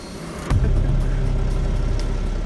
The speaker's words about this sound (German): Auf der Terrasse der Tankstelle lauschen wir Gesprächen, sehen, wie immer wieder Fahrzeuge von der Tankstelle aus an Ampeln stark beschleunigen, abbiegen und wegzischen.